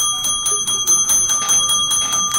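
A small hand bell is shaken rapidly and steadily, producing a bright, sustained metallic jingle with quick repeated strikes, close and fairly loud, with no voices.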